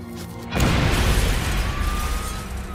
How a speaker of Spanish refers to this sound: La explosión hirió de gravedad al doctor Epstein.